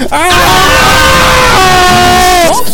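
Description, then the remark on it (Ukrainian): A single long, loud scream from one person, held steadily for a couple of seconds before it sweeps upward in pitch at the very end. “Так що, друзяки, ви як хочете, а я о 15:00 на 2+2 сижу і разом з екстремалом кричу.”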